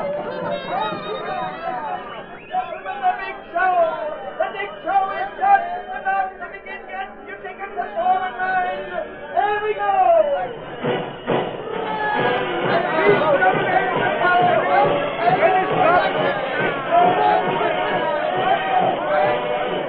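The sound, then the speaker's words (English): A dense crowd at a circus sideshow murmurs and chatters continuously on a brightly lit circus lot just before opening time, many overlapping voices forming a steady hubbub that swells louder and thicker about halfway through, with no single speaker standing out. “Meanwhile, the circus lot was a blaze of lights. It was just before the time for the opening, and crowds jammed the sideshow, the menagerie, and the various refreshment stands.”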